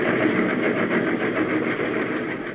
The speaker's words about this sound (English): Suddenly, I realized that I was hanging on the side of a speeding train.